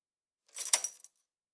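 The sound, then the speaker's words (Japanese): A brief, bright jingle of keys lasting about half a second, ending in a small metallic click like a lock catching. Quiet, with no voices. “鍵がかけられました。”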